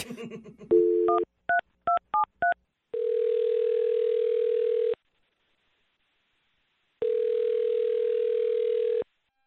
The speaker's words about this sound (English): Here we go. I'm going to dial the phone number and let you do your thing.